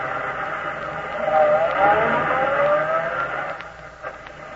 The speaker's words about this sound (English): Girl, who were you talking to just now? Huh? That car that just drew up. Oh, he wanted to know where Highway 22 was.